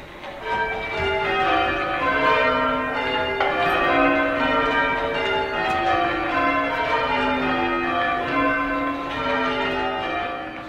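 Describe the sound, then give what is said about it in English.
Church bells ring continuously in overlapping peals, their rich harmonic tones blending into a full, steady wash of sound that stays loud throughout, with no voices present. “It's, bells are ringing, oh yeah, I don't have to pay attention, but I should make my way to church now.”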